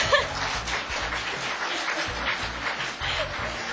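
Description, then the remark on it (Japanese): A crowd applauds steadily for about four seconds, many hands clapping into a dense, even wash of sound with no voices standing out. “みんな拍手してたよ。”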